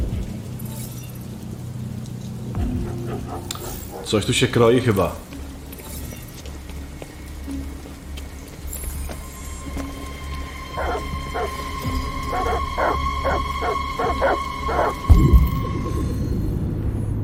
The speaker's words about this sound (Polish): A co tam za psy takie były gdzieś, słyszeliście?